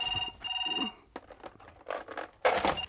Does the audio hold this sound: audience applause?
no